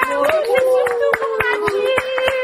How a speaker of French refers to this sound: Bravo, bravo, les enfants. On a des applaudissements